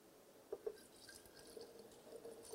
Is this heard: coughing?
no